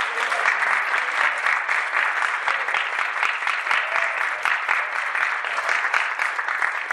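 Steady, dense applause from an audience at a church gathering of a Scout troop, honoring a former Cub Master, many hands clapping at once in a continuous rapid patter that holds at an even, fairly loud level throughout.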